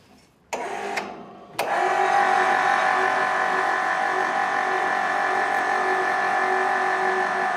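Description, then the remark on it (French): A few sharp clicks, then an electric motor at the base of an 18-metre, three-section telescoping antenna pylon starts up. It runs with a steady, loud mechanical whir and hum, holding an even pitch, as the sliding sections of the mast are raised. “On est en train de monter le pylône qui se présente en trois parties.”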